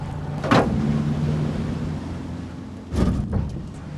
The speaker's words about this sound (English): As the boat slowed down and we began our approach to their underwater farm